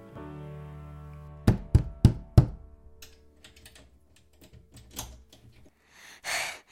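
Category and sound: impact, knocking on a door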